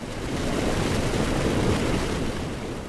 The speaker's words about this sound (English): Stinky wastewater from Gazan homes rushes out of a wide concrete pipe straight into the Mediterranean Sea.